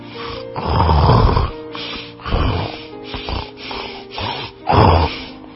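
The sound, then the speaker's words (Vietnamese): A voice imitates the snoring of a sleeping wolf with a swollen belly: loud, rasping snores in three big bursts around the first, third and fifth seconds, with smaller snorting breaths in between, rough and low. “Nó ấy to như vậy còn hơn là mấy cái máy cưa nữa.”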